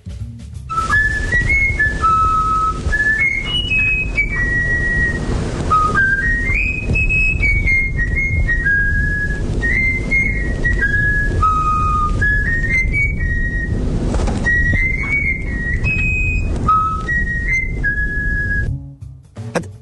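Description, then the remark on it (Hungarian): A small songbird whistles a learned melody in clear, pure notes, phrase after phrase rising and falling for about twenty seconds over a steady low rumble, with no talking. “Gyakorlatilag tökéletesen elfütyülte.”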